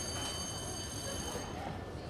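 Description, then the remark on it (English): A school bell rings in the intro of an album, one steady, shrill metallic burst lasting over a second before cutting off, leaving a constant rumbling background noise. “But yeah, it's an intro, and it basically, like, you know, has a school bell.”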